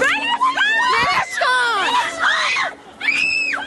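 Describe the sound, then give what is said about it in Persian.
A woman in Iran, whose only charge is not observing the compulsory hijab, screams and shouts in high, strained, loud bursts, with brief pauses between cries and faint commotion behind her. “صدای فریاد و جیغ زنی که تنها اتهامش رعایت نکردن حجابی است که آن را اجباری می‌داند.”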